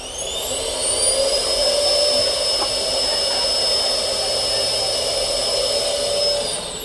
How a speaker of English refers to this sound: And so you can not only sit on the potty yourself, but you can also push the button to hear the sound of the suction that they would normally hear on the ISS.